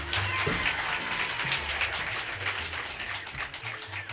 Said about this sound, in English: Let's all get together and give … a nice hand.